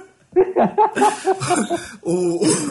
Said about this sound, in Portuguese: Até tossi aqui.